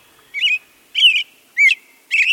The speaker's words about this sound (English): You hear that, American Robin? Search the highest vantage point, and you'll see him belting out his clear and liquid tones.